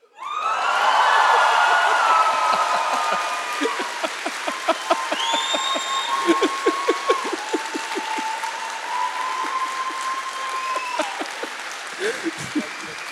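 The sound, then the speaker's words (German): Loud applause from a crowd fills the opening seconds, then thins into scattered claps with whistles and whoops rising above, continuing steadily to the end. “das war der Applaus für dich.”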